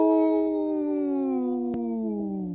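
A single wolf howl, one long sustained note that slowly sinks in pitch, loud with no voices, broken only by a brief click partway through.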